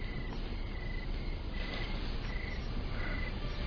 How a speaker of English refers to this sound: I hear crickets.